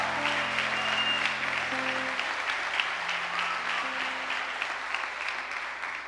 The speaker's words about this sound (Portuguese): Só quem crê nisso faz um barulho e aplauda Jesus. Aplauda, aplauda Ele.